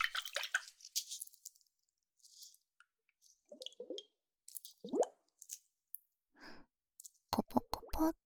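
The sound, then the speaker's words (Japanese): Liquid sloshing inside a maraca-shaped glass ice globe filled with a special liquid, used for facial massage, as it is shaken, with soft wet plops and squishy swirls, then a quick run of sharp glassy clicks at the end. No one speaks. “このマラカスみたいな形のガラスがアイスグローブで、特殊な不透液が入っています。”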